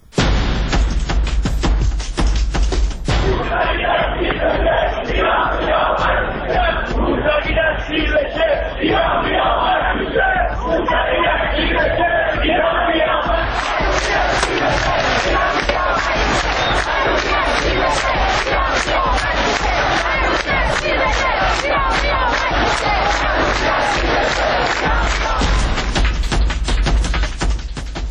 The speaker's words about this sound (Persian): پنج سال میگذره از روزهایی که این شعارها در کوچه و خیابان فریاد زده میشد.